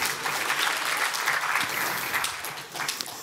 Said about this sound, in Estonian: Või võib küll plaksutada.